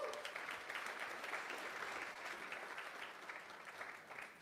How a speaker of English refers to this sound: Thank you, worship team. That was absolutely amazing. Everybody give them a round of applause real quick.